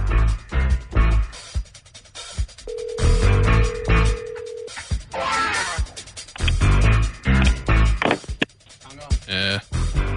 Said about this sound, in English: This was a phone line. The f*** is the Y hanging up the phone for? Maybe that's Jameis doing his community service. Just picking up the phone and hanging up.